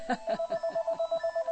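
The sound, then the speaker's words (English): A telephone rings with a rapid electronic trill, a steady tone broken into quick regular pulses, about eight in under two seconds, clear with no one talking. “I just want to make sure nobody's calling me to tell me that they can't hear me on Pal Talk. Okay, good. So I'll ignore the phone then.”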